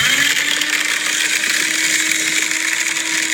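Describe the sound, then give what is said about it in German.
A steady, loud motorized whirring with a constant low hum and broad grinding noise, running continuously without pause: a newly bought paper shredder operating. No one speaks. “Es ist ein Papierzerhäcksler.”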